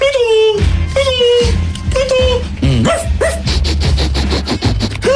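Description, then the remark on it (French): A dog sniffs, barks and yips in a rapid series of short, pitched bursts, some rising into whines, with voices and background noise running underneath throughout. “mon chien va vous flairer.”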